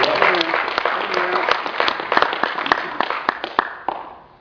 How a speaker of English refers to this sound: Let's give a big round of applause for the Black Panther Party.